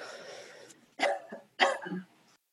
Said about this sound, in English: I think some of you might even need to cough or yawn to expel it out. Yeah. So go ahead. Good. Cough again.